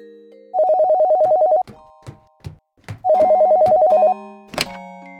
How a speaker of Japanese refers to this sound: あら、あれは電話の音ではありませんの？ え？あ、本当だ。